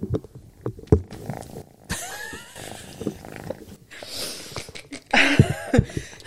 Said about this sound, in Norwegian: Altså, han maler så høyt at jeg tror vi plukker det opp på mikken.